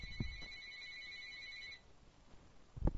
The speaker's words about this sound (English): Yeah, phone's ringing. You want to get that?